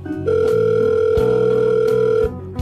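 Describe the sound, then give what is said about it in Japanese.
A telephone handset clicks down, followed by a steady, loud dial tone that hums unbroken for about two seconds before cutting off, with no voices present. “今からお命頂戴しに参ります。首をきれいに洗って待ってろでございます。ガチャ。”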